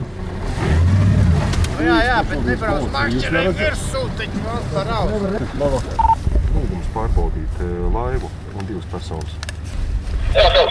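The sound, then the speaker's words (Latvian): A motorboat travelling along the Daugava river at night drones steadily at moderate volume beneath continuous speech, a constant low rumble that never lets up while someone talks over it. “Līdz buļupei pie Boldrājas teju 25 km ceļš pa Daugavu.”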